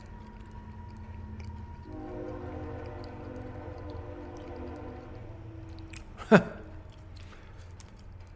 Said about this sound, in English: So guys, I've moved from one area where I was near a train to an area where I'm right next to a train.